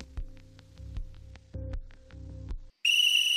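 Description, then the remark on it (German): Low, thumping rhythmic music breaks off into a brief silence, then a loud, ear-splitting electronic whistle blares from a telescreen at 7:15 as the signal to get up, one steady, unbroken tone that runs to the end. “Vom Teleschirm kam ein ohrenzerreißendes Pfeifen. Ein langer Dauerton.”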